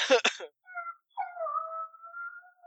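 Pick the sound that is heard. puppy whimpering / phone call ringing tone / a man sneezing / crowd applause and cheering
puppy whimpering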